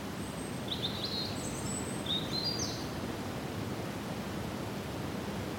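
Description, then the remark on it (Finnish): A steady, dense roar of river rapids fills the whole recording without pause, while a few thin, high bird chirps flit briefly above it near the start. “Kosken koina hidasti ajatukseni.”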